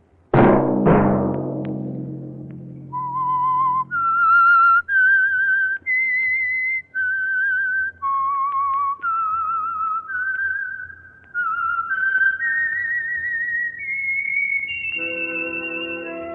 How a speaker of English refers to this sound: Let that whistle be your signal for the Signal Oil program, The Whistler, each Sunday night at the same time.